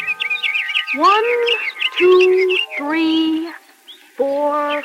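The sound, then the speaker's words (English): A busy chorus of seven baby birds that cannot yet fly, chirping in a nest fallen from a tree: rapid, high twittering throughout, mixed with longer, lower peeping calls that swoop upward and hold, fairly loud with brief pauses. “And in the nest were seven little birds who did not know how to fly.”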